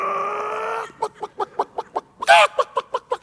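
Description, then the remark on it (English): A voice imitates a chicken during a church sermon, opening with a drawn-out squawk and then breaking into quick, evenly spaced clucks with a sharp 'bawk' in the middle, loud. “The Spirit is pictured as a dove, as I mentioned last week, not a chicken.”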